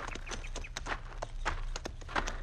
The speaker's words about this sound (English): Get down off your horse, senor. All right. We lead our horses over onto that flat. Where they'll be in the shade. Come on, Diablo.